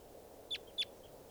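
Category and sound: bird, bird call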